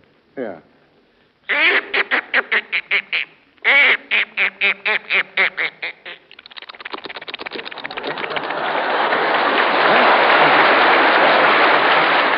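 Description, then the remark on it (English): A voice imitates a duck with two runs of rapid, rhythmic quacks, then shifts into a long, hissing rush that swells steadily louder, like something plunging into water. “First here is Duck Going Into the Water.”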